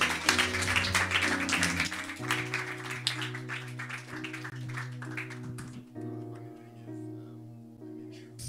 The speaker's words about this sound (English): Let's clap for the two ladies.